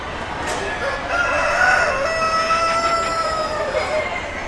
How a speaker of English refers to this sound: These are bantam fowl that we're looking at now, as opposed to the standard fowl, which is your full-size birds.